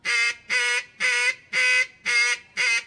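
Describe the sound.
Six loud, evenly spaced nasal quacks of a hail call blown on a duck call, each a sustained, raspy, harmonic-rich blast about a third of a second long, sharp, in a steady descending hail-call rhythm.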